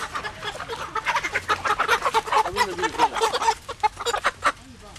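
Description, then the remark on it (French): Hens beneath a raised, stilted hut-like coop with a wire-mesh floor cluck continuously in a busy, overlapping chorus of short rhythmic calls, moderately loud, with no one talking over them. “Le sol de la paillote, en fait, est un grillage et laisse passer les fientes des poules qui sont donc en dessous.”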